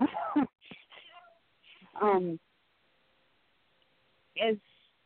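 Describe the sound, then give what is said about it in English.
A cat meows while trying to hold a phone, giving three short, strained cries spaced a couple of seconds apart, with faint rustling and quiet pauses between them. “My cat yeah. is mm-hmm. trying to hold my phone too.”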